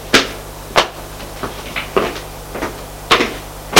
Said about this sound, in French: il frappe à la porte du petit salon.